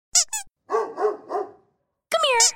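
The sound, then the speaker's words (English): A dog barks in a Natural Balance dog food ad made for dogs: two quick high yips, then three fuller barks in a row, followed after a brief pause by a drawn-out, high-pitched whining yelp. “Natural Balance presents a head-tilting, tail-wagging audio experience made for dogs.”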